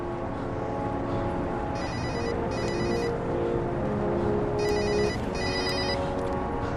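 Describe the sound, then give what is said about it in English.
A cell phone rings in repeated electronic bursts, two pairs of trilling tones, over the steady rumble of a van driving down a street in the daytime. “He pulls out a cell phone.”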